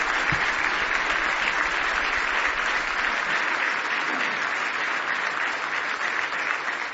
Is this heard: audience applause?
yes